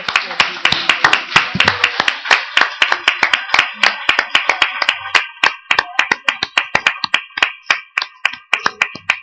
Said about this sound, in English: Thank you, Jesus. Let's give a clap offering to our God.